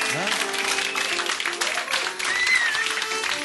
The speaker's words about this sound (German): Könnt ihr ruhig mal klatschen.